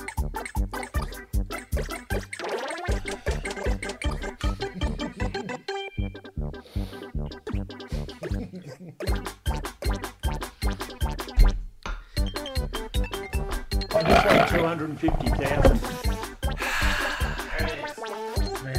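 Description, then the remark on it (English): Someone gulps water, with rapid, rhythmic swallows and wet gurgling that continue steadily for about twenty seconds, no talking. “So please, for the next 35 seconds, you are going to be silent while you drink some water.”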